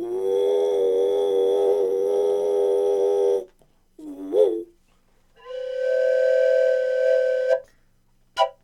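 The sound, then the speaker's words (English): A train whistle sounds one long steady blast, then a brief short toot, followed by another long, higher-pitched blast and a faint click, a one long, one short signal for approaching meeting or waiting points of trains. It is loud, with no talking. “And then we have one long, one short means approaching meeting or waiting points of trains.”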